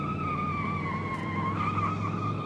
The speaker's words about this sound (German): Mit quietschenden Reifen rast das Auto um die letzte Kurve hin zum Zoo. Dann sind sie da.